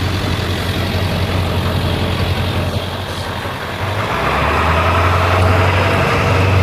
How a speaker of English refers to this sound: I'm going to hustle across the street in front of this pickup truck who has to stop for the stop sign.